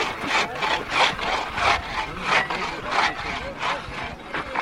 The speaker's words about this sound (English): Once the ice plow has marked out a grid, it's time to cut a channel through which blocks of ice will be floated to the shore. Well, finally, the hatchet breaks through the ice to the water below, and then it's time to put the antique ice saw to work.